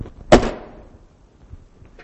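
A house door slams shut once after someone is thrown out, a loud, sharp bang with a short echoing tail that fades into near silence, followed by faint scattered background noises.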